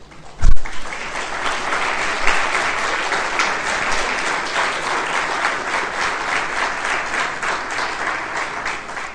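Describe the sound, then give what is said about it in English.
A crowd applauds steadily for about nine seconds, a dense wash of many hands clapping at even loudness, opening with a sharp thump before the clapping settles in. “But from tomorrow, no clapping.”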